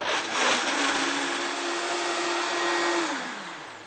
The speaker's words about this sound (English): Just use your cashew. And the water. Again, you put it on the blender.